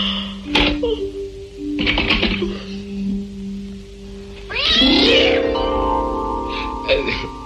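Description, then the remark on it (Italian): A cat meows several times in an apartment, with drawn-out, wavering cries that rise and fall, the loudest one stretching for a couple of seconds amid faint background noise. “Lui è buono, vero gatto? Su, vieni qua.”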